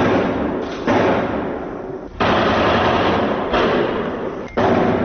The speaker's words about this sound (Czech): Na severoistoku grada u okolini stadiona Francuska, na kome se okupilo 80.000 gledalaca, odjeknule su 3 eksplozije.